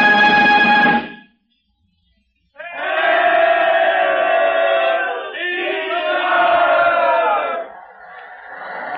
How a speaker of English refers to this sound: These we find gay with bunting, alive with crowds, noisy with the cheering of the people. The procession is approaching.